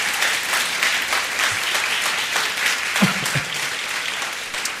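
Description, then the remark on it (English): Sustained applause from a large church audience, a round of applause given to God, fills the space: a dense steady patter of many hands clapping at even loudness, with a few faint vocal sounds briefly rising underneath. “Well, let's just really give a big round of applause to God.”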